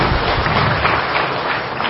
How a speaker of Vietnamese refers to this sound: Rồi cho anh chàng pháo tay đi.